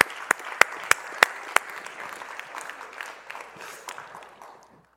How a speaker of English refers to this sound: I'm gonna clap myself for a minute.